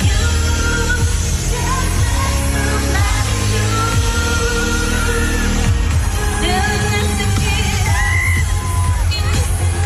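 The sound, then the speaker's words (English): A huge crowd at a concert in the Three Arena screams and cheers continuously, a dense roar with high whoops and yells rising above it, loud and sustained throughout without letting up. “So again, everyone in Three Arena was like, do your scream again.”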